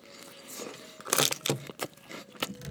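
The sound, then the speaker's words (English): Someone bites into and chews a Snickers chocolate bar together with hot fries, with a burst of crunching followed by several crisp, irregular chews and soft mouth sounds, no talking. “Spicy, crunchy, chocolatey, chewy.”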